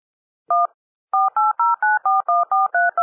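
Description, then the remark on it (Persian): A single touch-tone telephone beep, a brief pause, then a quick run of about eight more dialing tones in steady rhythm, clear with no voices; a telephone being dialed before a phone call. “اما برای اینکه جبران بشه یه تماس تلفنی موافقم پخش کنیم.”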